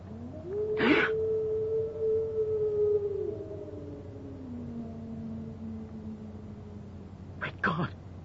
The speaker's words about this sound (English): What was that? I don't know. Just a sound they have on the moor. Watson. What do the local people call it? Tell me. They say it's the cry of the hound of the Baskervilles. Heralding the death of a member of the family.